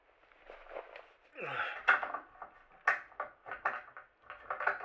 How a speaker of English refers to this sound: There. I locked the door.